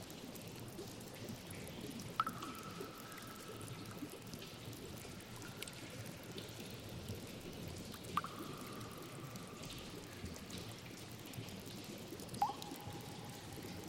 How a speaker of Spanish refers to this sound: El sonido del agua te invade. Cuando llegas ahí, ves frente a ti una enorme cascada.